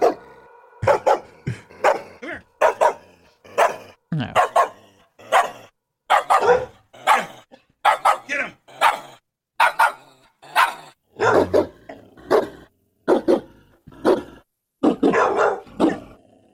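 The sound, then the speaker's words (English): A dog barks repeatedly in a fast, uneven series of sharp, loud barks, about a dozen over the stretch, clear with short gaps between bursts. “It's like a dog bark remix.”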